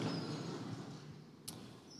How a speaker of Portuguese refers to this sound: Toda vez que alguém senta, leva um susto com o barulho da cadeira.